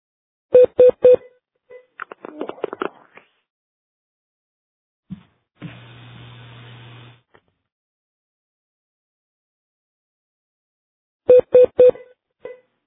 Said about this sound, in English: I think someone's got us on hold because we're getting a beep, or I'm getting a beep.